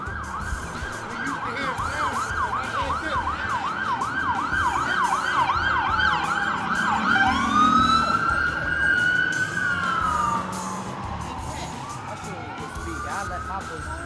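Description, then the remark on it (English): A loud emergency vehicle siren wails rapidly, then switches to a long sweeping tone whose pitch drops as it passes by and fades slightly into traffic noise. “So you're used to sirens, not that many though.”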